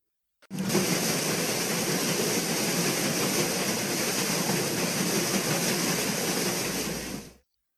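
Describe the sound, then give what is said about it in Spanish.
The paddle wheels of a steamboat churn and splash through river water in a loud, steady rush of noise lasting about seven seconds, with a rapid, rhythmic slapping texture and no voices. “Y todos sintieron bien fuerte ahora el chas, chas, chas en el agua.”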